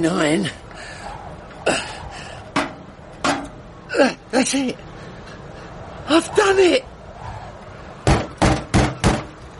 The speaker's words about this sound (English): I imagine he'll have to knock on the door, don't you?